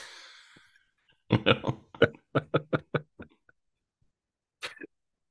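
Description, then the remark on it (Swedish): A fit of harsh, rapid coughs, about eight bursts in a row, followed after a short pause by one more cough. A brief breathy rasp comes before them, and no one speaks. “Men försäkta att jag hostade.”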